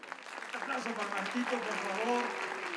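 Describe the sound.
A dense, steady wash of audience applause lasting a few seconds, with a voice talking over the clapping throughout.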